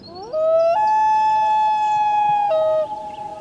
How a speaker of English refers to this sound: The call of the common loon is a symbol of the far north. Hear a loon in a movie, and there's a good chance the scene isn't far from the Arctic Circle.